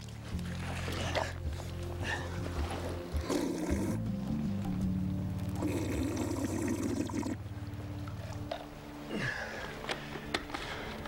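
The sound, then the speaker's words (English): Water pours and splashes in two bursts of steady trickling, running through a sediment and sand filter that removes debris, with a low droning rumble underneath throughout. “The sediment and sand acts as a fine filter, helping to remove debris from the water as well as some other impurities.”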